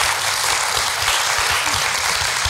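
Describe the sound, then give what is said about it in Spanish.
Steady audience applause, a dense wash of many hands clapping at an even, sustained level for the whole stretch, with no voices over it. “Así que te lo agradecemos y le damos un aplauso con mucho amor”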